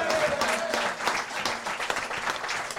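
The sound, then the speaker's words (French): A crowd applauds steadily, a dense patter of many hands clapping at an even loudness for a few seconds, with a faint tone and murmur beneath. “Applaudissements pour lui également.”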